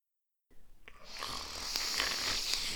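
A single drawn-out, raspy snore from someone asleep follows a moment of silence, swelling from a soft start into a loud, breathy rumble that holds steady until the end, heard alone.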